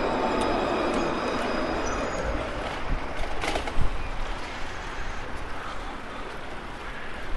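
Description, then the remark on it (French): A tram rumbles past a person cycling on the street, a steady broad roar of wheels and motor with a brief louder clatter midway, outdoors with no one speaking. “Quand le tram arrive, autant pour les vélos, il n'y en a pas.”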